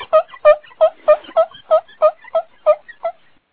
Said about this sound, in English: Sure, let's rub the teapot. I miss the genie. Yes, I do, too. Let me go find the teapot. Let me go find the teapot. Oh, here's the teapot. Here's the teapot. Let me start rubbing.